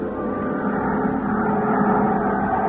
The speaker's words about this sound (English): to Al Sterner for his charter plane to the ghost town of Calico.